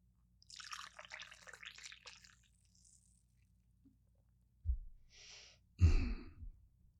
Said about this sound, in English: Okay, let me pour this coffee. I'll let you listen to the coffee being poured.